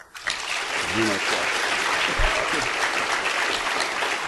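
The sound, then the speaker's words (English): An audience applauds steadily to vote that the xenograft story is the fiction, a dense wash of clapping at even loudness filling the whole stretch, with a brief voice heard faintly underneath near the start. “If you think that the xenograft is the fiction, applaud.”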